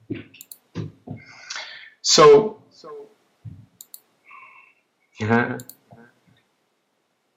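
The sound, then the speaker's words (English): A scatter of irregular key clicks and clatters as a cat walks across a computer keyboard, with a couple of louder bursts and a brief spoken word. “The cat that just jumped across the keyboard.”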